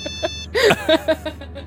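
A mobile phone, kept inside a shoe, rings with a bright electronic ringtone: a quick run of tonal beeps, then a louder warbling note followed by a string of shorter repeated tones that gradually soften.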